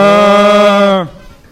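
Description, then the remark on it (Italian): A single loud moo from a cow in a stable holds a steady, buzzy tone for about a second, then drops in pitch and breaks off, leaving faint background noise. “Lo ha affermato oggi ai nostri microfoni la vacca che alloggia nella stalla di fronte. Ascoltiamo il commento.”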